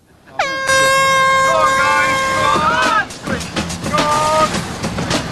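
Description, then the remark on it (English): A loud, sustained klaxon blares for about two and a half seconds with a rich, steady harmonic tone, sounding the start of a tile-smashing game, followed by lively crowd noise and a brief second honk. “Go on the sound of the klaxon.”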